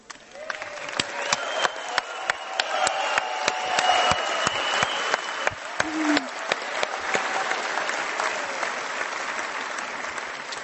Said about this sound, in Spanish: Y por cierto, ¿hay alguien que venga por primera vez a una reunión de Alcohólicos Anónimos? Si lo hay, que se ponga de pie para darle un aplauso.